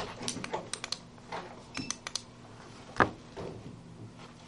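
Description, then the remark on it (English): Quiet rustling and crinkling of paper being picked up and shuffled, with a series of short dry taps and scrapes and one sharper knock partway through. No one speaks. “I'm grabbing that paper real quick.”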